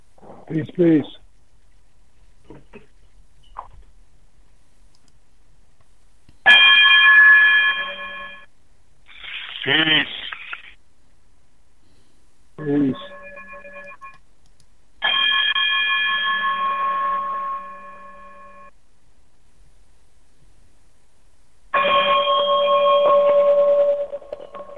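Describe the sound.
A radio station's electronic chime outro: three loud, sustained bell-like tones spaced several seconds apart, with brief warbling, voice-like sounds in the gaps between them.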